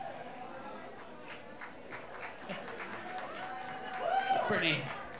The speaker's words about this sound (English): A pretty scattered hand clapping there for you.